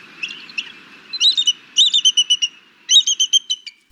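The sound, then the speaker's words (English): Bald eagle chirping whistles: three quick bursts of high, thin staccato chirps, each a rapid stuttering series, clear with no voices. “Listen for their chirping whistles, which are often a clue to their location.”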